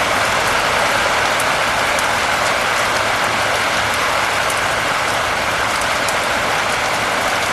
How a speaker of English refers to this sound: Wow! This storm is breathing. Feel the energy from this storm.